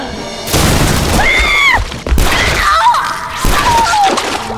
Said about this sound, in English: Abby was shot twice in the back. She was thrown forward by the horrible impacts, crashing against Preacher, who was trying to stand up.